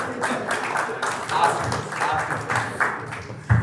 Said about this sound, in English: You should not be applauding that performance.